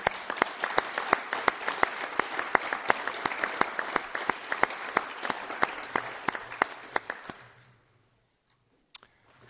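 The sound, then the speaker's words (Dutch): A municipal council audience applauds itself for four years of hard work, with dense, crisp clapping and a few sharper claps standing out, fading away after about seven seconds into near silence, with one last isolated clap. “En daarom vind ik dat we met elkaar vanavond maar eens moeten beginnen in die terugblik op die afgelopen 4 jaar van heel hard werken met elkaar om uzelf en elkaar een groot applaus te geven voor al die inzet.”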